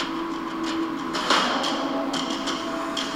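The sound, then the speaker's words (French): Hammering on a construction site in the capital near Doha during building works for the World Cup: several sharp, irregularly spaced metallic strikes ring out over a steady low machinery hum, with no voices. “La capitale est alors un immense chantier qui vit au rythme de la folie des grandeurs.”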